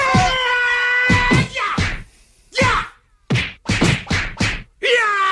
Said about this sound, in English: Please don't assault me with a Bruce Lee-style barrage of kung fu kicks and punches.